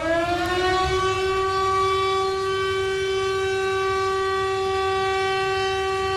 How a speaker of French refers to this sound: La sirène qui alerte donc de la vigilance rouge et des dangers